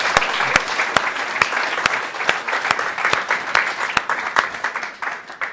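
An audience claps by hand in sustained, dense applause, with a few louder, sharper claps standing out at irregular intervals above the steady wash, fading slightly toward the end.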